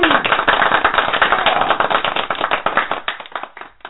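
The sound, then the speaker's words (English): A canned applause sound effect played from a clap button: many hands clapping in a dense, rapid crackle that holds steady, then thins into scattered claps over the final second, with no voices. “Let's find our clap button and just everybody Absolutely.”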